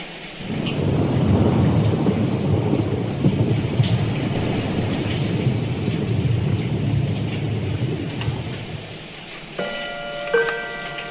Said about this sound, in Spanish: No ha parado de llover en varios días. Las plantas se marchitan de tanta lluvia.